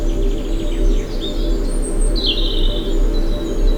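Several birds chirp and trill in a spring forest at Bellesta, overlapping tweets over a steady low outdoor hum with a faint buzz of pollinating insects beneath.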